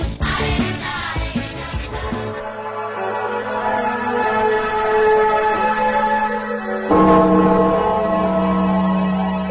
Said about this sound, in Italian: Bella musica introduttiva, eh? Stamattina sono di campane, comincia così la trasmissione di oggi